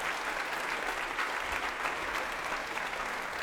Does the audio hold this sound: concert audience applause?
yes